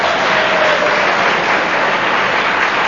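Steady, dense applause from a crowd fills the whole stretch, many hands clapping at once in a loud, continuous wash with no voices standing out.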